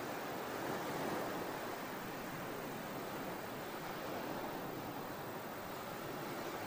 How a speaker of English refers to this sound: As you exhale, the water retreats to the bosom of the sea. Your breathing and the ocean's breathing, embodied in the motion of the waves, have become one. The sea is breathing in and through you.